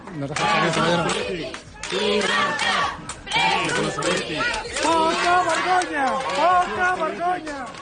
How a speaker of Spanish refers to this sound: Sánchez fue recibido ayer con abucheos y con pitos a su llegada a 2 hospitales de la ciudad condal